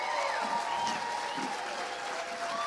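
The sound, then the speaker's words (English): Steady audience applause, a dense wash of many hands clapping at an even, sustained loudness for the whole stretch, with a faint murmur of crowd voices mixed in. “I think we need to give her a really loud round of applause for how beautiful.”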